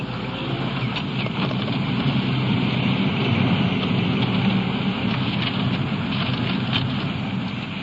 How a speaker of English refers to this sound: It's getting late in the evening, and the possibility of rain I mentioned earlier is here now. In fact, it's coming down pretty hard.